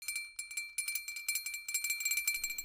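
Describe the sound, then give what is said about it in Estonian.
A small bell rung again by Constable Bastian after a song on stage, in a quick, steady series of bright metallic strikes, its high clear tone sustaining underneath the rapid jingling for a couple of seconds, with no voices. “Ja ta helistas jälle kella.”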